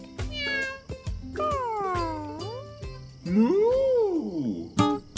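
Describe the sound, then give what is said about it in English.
A barnyard cat on a farm meows several times in a row, drawn-out and wavering calls that rise and fall in pitch, fairly loud, with no talking. “Blue said goodnight to the barnyard cat.”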